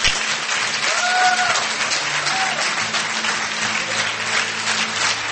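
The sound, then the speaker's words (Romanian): Steady, dense applause from a large crowd fills the space, loud and continuous throughout, with faint whoops or cheers rising briefly above the clapping, as people applaud Jesus after a prayer. “Haideți să-L aplaudăm.”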